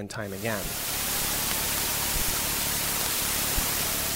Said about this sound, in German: Die Rohdaten von Kepler. Ins Akustische übertragen ein chaotisches Rauschen. Scheinbar.